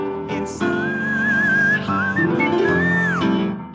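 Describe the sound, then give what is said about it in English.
A male singer hits very high, piercing whistle-register notes, sustained and wavering with vibrato, gliding upward near the end over a steady musical backing. “But if anybody likes whistle tones and likes cute men, then he is also cute.”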